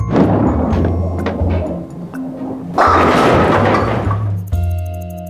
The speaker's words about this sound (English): In bowling, you roll a heavy ball toward bowling pins. Bowlers try to knock over as many pins as possible.